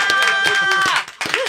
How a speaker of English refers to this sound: Wow. I'm never clapping early again.